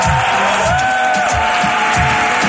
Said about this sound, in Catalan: Sisplau, molt d'aplaudiment.